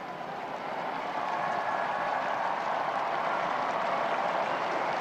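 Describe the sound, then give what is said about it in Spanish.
A large crowd of faithful applauds Pope Francis as he appears at a window and greets them over a packed St. Peter's Square in Rome, in fine weather; a steady, dense wash of clapping that holds at an even level throughout, with no voices standing out. “Vemos ya como el Papa Francisco sale por la ventana y saluda a los fieles, y estos, como siempre, le saludan con un caluroso aplauso.”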